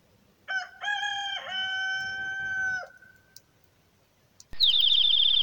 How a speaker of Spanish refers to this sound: ese es el gallo de mi vecino.